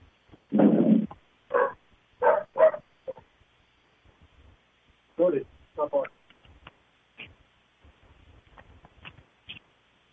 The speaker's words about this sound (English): Okay, I closed the door, dog inside was barking, so just to get a little peace of mind here, doing my radio show.